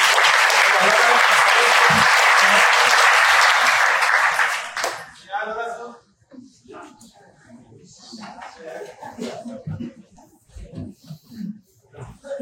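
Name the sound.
audience applause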